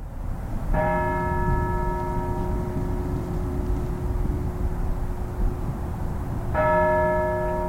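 The Kraus chimes at Syracuse University toll slowly during an annual remembrance ceremony, ringing 35 times in honor of 35 students; two resonant strikes about six seconds apart, each ringing out and lingering over a steady low outdoor rumble, with no voices present.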